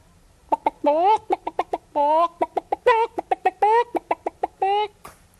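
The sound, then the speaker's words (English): A person imitates a chicken clucking with their voice, with rapid short clucks broken up by several longer, drawn-out squawking notes. It's clear, repeating in an uneven rhythm for about five seconds. “Does that sound like a chicken?”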